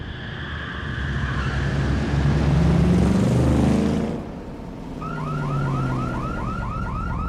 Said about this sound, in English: There's your salesman. Sounds like he forgot about his alarm system. Could be. He didn't know the car had one on it.